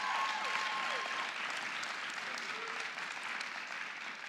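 A crowd claps steadily in a dense, continuous wash of applause that holds level throughout, with a faint high whistle-like tone briefly near the start.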